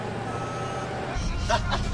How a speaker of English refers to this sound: Tucker backs up and drives away down another street.